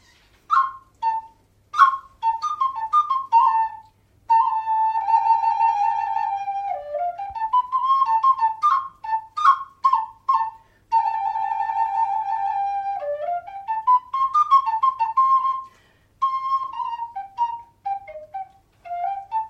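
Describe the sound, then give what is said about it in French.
A lilting melody on a high, pure whistle-like tone, moving through short quick notes, trills and longer held phrases with occasional downward glides, played alone without any voices. “Listen to the music.”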